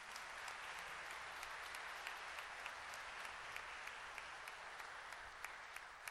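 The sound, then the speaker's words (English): A crowd claps steadily for several seconds, a dense wash of hand claps with sharper individual claps popping out, holding an even level throughout with no voices. The audience is applauding a girl who is about to receive her first communion. “Let's give her a little applause there.”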